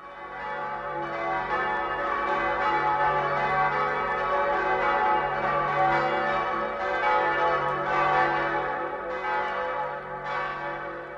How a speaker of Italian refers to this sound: Dalle case antistanti al viadotto, la gente alle finestre applaude, mentre le campane di San Gregorio VII suonano a festa.